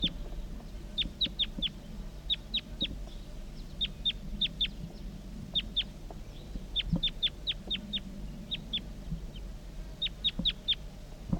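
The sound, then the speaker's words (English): Wild bird calls from a female crossbill: sharp, high-pitched chirps in quick bursts of two to four, repeating steadily over a low, rumbling background hum. “Recording wild bird.”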